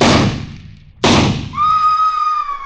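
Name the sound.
rifle gunshot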